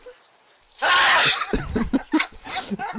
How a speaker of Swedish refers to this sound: Men det är liksom kul för att det är nästan lite skämmigt att nysa, och ännu mer nu såklart. Ja. Och det går ju nästan inte att kontrollera.